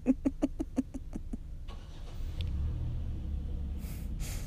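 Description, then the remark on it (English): The engine of a car parked right next to the listeners cranks in a quick run of rhythmic, buzzing pulses, then catches and settles into a low, steady rumble as the car leaves, with brief rushing noise toward the end. “They got in the car. Hopefully they're not doing the same thing.”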